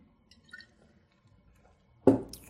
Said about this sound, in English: You can take a sip.